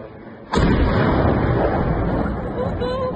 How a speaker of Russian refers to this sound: Еще взрыв.